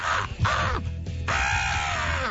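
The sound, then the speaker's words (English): Harlan Williams imitates a crow: two harsh, raspy caws in quick succession, a brief pause, then a long drawn-out caw, loud and nasal. “They're funnier stand-ups, but nobody does better bird sounds than Harlan Williams.”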